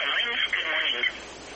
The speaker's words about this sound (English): Good morning. You're live on Swap Shop, and you might want to lower your radio in the background.